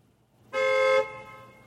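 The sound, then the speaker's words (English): A single car horn honks in a parking lot for about half a second, loud and steady, then leaves a lingering echo that slowly fades. “I think that horn was not even a real horn. It's had echo in it, that horn.”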